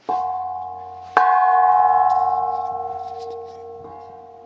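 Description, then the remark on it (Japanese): A temple bell, recorded on a voice recorder at the temple with the Mejiro Fudō-dō hall, is struck twice, each strike blooming into a rich, sustained hum with shimmering overtones that slowly fade, heard clearly with no voices. “ボイスレコーダーで鐘の音を拾ってみました。”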